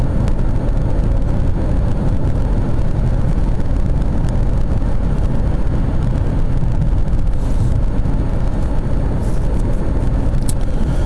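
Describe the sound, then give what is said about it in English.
Steady, low rumbling road and engine noise from inside a moving Acura car driving near Lincoln, a continuous even drone with faint hiss on top and no talking throughout. “I tell you what, the Acura here is a pretty smooth riding car.”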